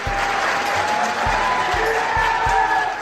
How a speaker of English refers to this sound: That led to a round of applause by anti-abortion activists who packed the audience, as posted on X by the DNC.